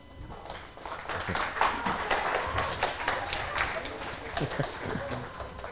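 Three chairs scrape and thump as they are dragged into place and set down for people to sit on, a busy jumble of knocks and shuffles over a murmuring crowd.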